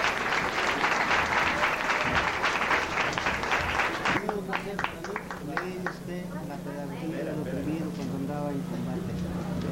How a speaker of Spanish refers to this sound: Muy bien, un aplauso por favor.